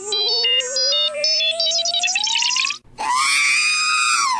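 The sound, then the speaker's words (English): The sci-fi robot droid R2-D2 screams electronically: a rising, warbling whine with chattering beeps, a split-second break, then a loud, sustained shrill squeal, alone with no talking. “That was R2. R2-D2.”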